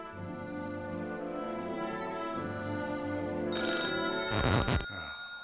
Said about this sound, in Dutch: Telefoon. Ja, dat zul je altijd zien, hè? Nou, ze bekijken het maar.